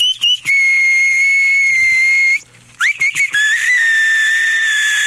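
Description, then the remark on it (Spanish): A battery-powered whistling keychain, which whistles automatically at the first little noise, lets out loud, shrill, steady bird-like tones with brief chirpy starts, two long whistles separated by a short pause, with no voices. “Deje que se cuezan esas habas al gusto mientras otros creen que está un pajarito cerca.”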